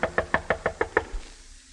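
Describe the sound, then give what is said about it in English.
Seven quick, evenly spaced knocks on the wooden door of Rollo Bendata's home, crisp, followed by a brief quiet tail with no voices. “I knocked hopefully on his door.”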